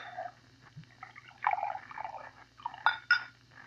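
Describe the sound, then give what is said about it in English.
Bourbon glugs and splashes into a glass in uneven bursts, fairly quiet, ending with a couple of brighter ringing notes over a low steady hum. “Bourbon. You pour. I don't know when to stop.”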